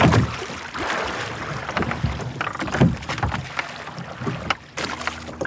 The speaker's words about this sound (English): So the folk on the left-hand side of the boat are still rowing, so we're turning round, heading back towards the beach. Any second now, the folk on the right-hand side of the boat will pick up too, and there we go.